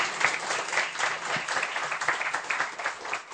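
An audience applauds a presenter in thanks, steadily for a few seconds, dense overlapping claps forming a continuous crackling wash at moderate volume, with no voices over it.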